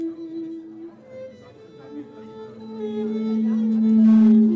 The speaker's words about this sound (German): Der Geiger spielt sich schon mal warm, der Verstärker gebiert Rückkopplungen. Der Sound des Begegnungscafés vor dem Erfurter Rathaus könnte auch für den Zustand der Thüringer Politik stehen.